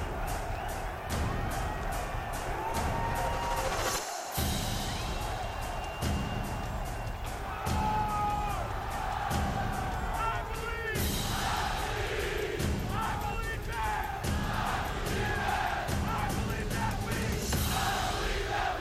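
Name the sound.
football fans cheering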